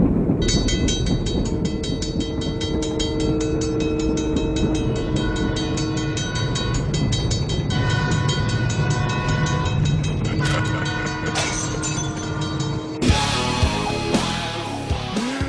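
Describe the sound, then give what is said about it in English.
A train wreck sound effect: a loud, sustained train horn blares over heavy rumbling rail noise, then the sound abruptly shifts into harsher metallic screeching near the end. No one speaks. “The sound effect that Les Grobstein uses for a train wreck”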